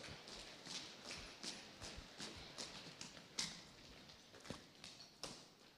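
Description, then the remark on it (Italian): An audience at a Christian sermon stamps their feet on the floor at the preacher's request, producing a steady stream of repeated thuds in a rough rhythm, fairly loud and reverberant, with no talking. “Per favore, fatemi un segno che avete capito, calpestando serpenti, scorpioni e tutta la potenza del maligno.”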